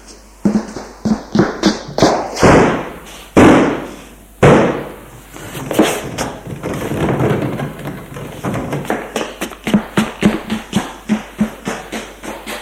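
Heavy, repeated blows against a door being forced open at night, a few loud slams followed by a quick, irregular flurry of thuds and knocks, forceful, with no voices.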